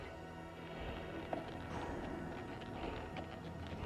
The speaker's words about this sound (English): Horse and rider trot towards the village cemetery.